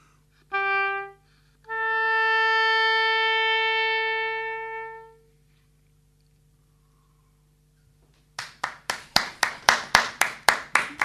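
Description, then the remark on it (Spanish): A long, steady musical tone sounds and fades to silence, then brisk, evenly spaced hand claps ring out, about a dozen in quick succession like a short burst of applause after a music performance. “Antes no podía aplaudir porque estaba filmando.”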